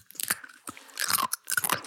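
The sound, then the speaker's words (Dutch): Crisp crunching as something dry is bitten and chewed, several irregular bursts of crackly noise over about two seconds with brief pauses between chews, no talking. “Daar gaan we. Hele hap.”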